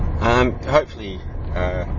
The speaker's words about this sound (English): Be able to stitch this together while driving. You'll hear some driving noises.